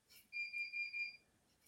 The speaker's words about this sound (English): That was some alarm going off that I've generated by admitting I've got a season ticket.